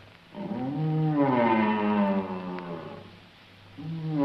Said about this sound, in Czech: V rámci názornosti se z přijímače line hlas jelena v říji. Proč ne? Je to osamělý jelen, který snad přišel až od někud z Polska a hledá milostné štěstí zde.